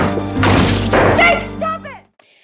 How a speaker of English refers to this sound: He fucking smashes a monitor. This is like so over the line.